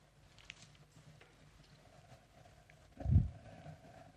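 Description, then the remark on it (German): A boat pitching in stormy seas: a steady low rumble of wind and water, with a heavy, booming surge about three seconds in before it settles back to a rough drone. “Ich habe hier mal so ein paar verzweifelte Jünger, die da versuchen, im Boot zu bleiben.”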